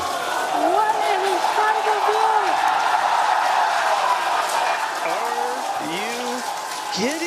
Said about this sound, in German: Und da gerät auch manchmal in den Hintergrund, dass sein Unternehmen SpaceX ja eigentlich versucht, die Raumfahrt weiter zu revolutionieren. Diese Woche gab es bei den Ingenieurinnen und Ingenieuren ziemlich viel Jubel.